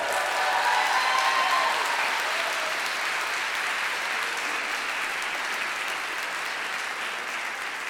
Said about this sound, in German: Ja, und das war die Sailor Moon Show Gruppe Tanze nicht synchron. Nochmal einen ganz super riesengroßen Applaus bitte.